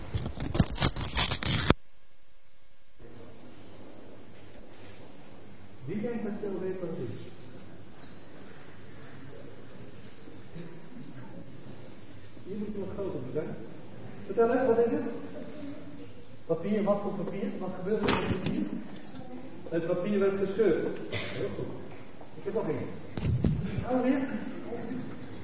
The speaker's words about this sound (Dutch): Wat voor papier? Wat gebeurt er met het papier? Het papier werd gescheurd.